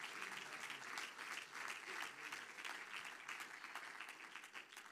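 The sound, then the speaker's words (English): An audience at a church service claps hands steadily for several seconds, a dense patter of many hands at moderate volume, with faint voices mixed underneath. “Somebody clap your hands and say, I believe that.”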